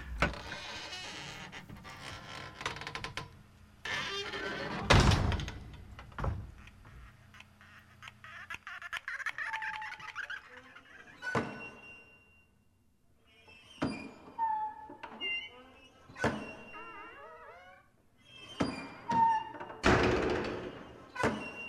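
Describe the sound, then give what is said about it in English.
A wooden cellar door thumps and bangs repeatedly, with long, warbling creaks and squeals between the knocks, fairly loud, in an irregular, almost rhythmic jam of hinge groans and heavy thuds. “No baseboard concerto. It's cellar door jam session.”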